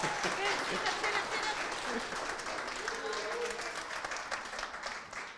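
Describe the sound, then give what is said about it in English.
An audience applauds steadily, a dense wash of many hands clapping at once that holds at an even, moderately loud level for several seconds before easing slightly toward the end. “You can clap, it's okay.”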